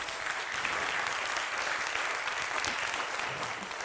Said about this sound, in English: And so can you do me a favor and just give God a hand clap of praise?